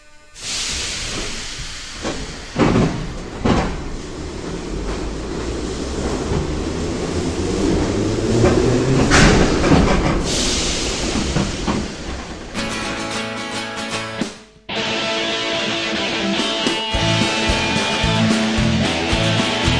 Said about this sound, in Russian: Уважаемые пассажиры, будьте осторожны, поезд отправляется.